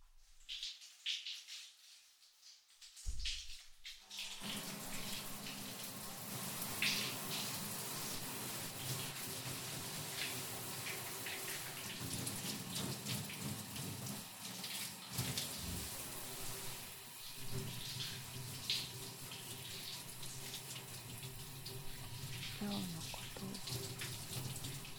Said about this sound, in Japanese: もう一回シャワーだ。